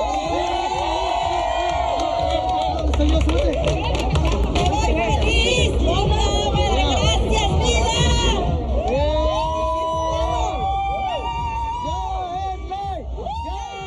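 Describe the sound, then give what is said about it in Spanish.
A crowd of about 600 to 800 supporters shouts and cheers continuously at an LGBT Pride parade in Mexicali, Baja California, Mexico, as it converges on the Civic Center plaza. Many voices overlap in loud, rising and falling yells and whoops, with chant-like calls of "¡Ya es ley!" swelling toward the end. “Mientras el desfile convergía en la plaza del Centro Cívico de Mexicali, la gente gritaba a todo pulmón.”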